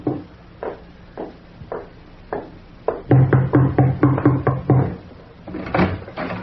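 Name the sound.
knocking on a door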